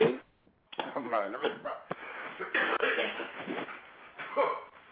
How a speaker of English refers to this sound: Oh, my God. Who was coughing like that? I'm smoking the reefer.